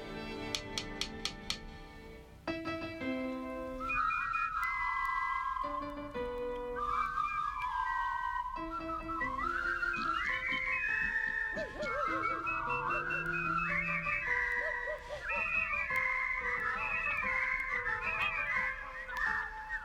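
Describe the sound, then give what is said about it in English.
The Whispering Yeast All-Animal Whistling Choir whistles a lively tune together as a rousing salute, their sustained notes weaving and overlapping at a steady, fairly loud level after a few sharp clicks at the start, with no talking. “the famous Whispering Yeast All-Animal Whistling Choir”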